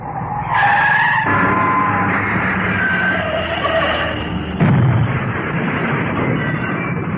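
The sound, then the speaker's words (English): Car tires screech in a long, loud skid lasting several seconds on an icy single-track road, then a heavy crash as the car hits a tree halfway down a slope, followed by rumbling and clattering as the wreck settles. No voices are heard. “Stuck halfway down a slope with a car jammed against the tree.”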